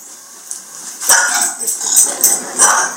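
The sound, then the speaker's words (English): A small dog named Mojo, also called Natural, gives a quick run of short, sharp barks, about five in an irregular series, moderately loud against a quiet background. “So then I had him give me the dog.”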